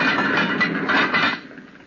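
A log is stowed into a furnace on Mount Greylock with a rough, scraping clatter of wood against metal, lasting just over a second, then the heavy iron furnace door clanks shut and the noise fades out. No voices.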